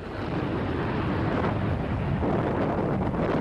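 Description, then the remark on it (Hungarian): A loud, steady roar of the Ukrainian president's private jet turbines running up before takeoff at Uzhhorod airport, Ukraine, on a runway within the town, stirring up wind and dust, with gusty wind buffeting the microphone throughout and no voices. “A kifutó pálya azonban a városban van, a turbinák pedig akkora szelet kavarnak, hogy nem csak a házakra, hanem a járókelőkre is bőven jut a felkapott porból.”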